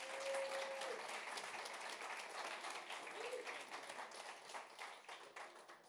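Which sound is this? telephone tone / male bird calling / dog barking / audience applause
audience applause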